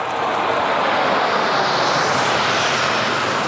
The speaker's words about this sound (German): Unter Applaus zeichnen Kampfjets die französischen Nationalfarben an den Himmel über Omaha Beach. 80 Jahre danach erinnern in der Normandie Veteranen und Politiker an die Landung von Briten, Kanadiern und US-Amerikanern, an den D-Day.